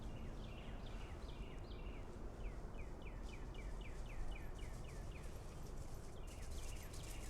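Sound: birds singing outdoors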